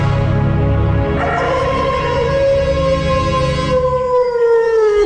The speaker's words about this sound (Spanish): Más tarde, al igual que los otros días, el lobo salió aullando del bosque.